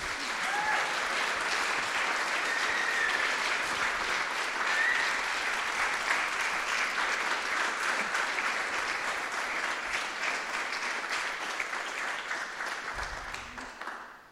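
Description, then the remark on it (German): An audience claps steadily for about fourteen seconds, a dense, even wash of many hands that holds at a constant level and tapers slightly at the end. No one speaks over it. “Und ich würde sagen, wir geben denen mal einen Applaus.”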